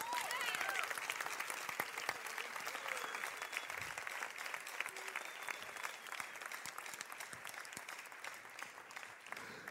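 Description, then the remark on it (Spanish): A crowd applauds steadily for about ten seconds, a dense wash of clapping that holds an even level throughout, with a few faint voices mixed underneath. “Des un aplauso.”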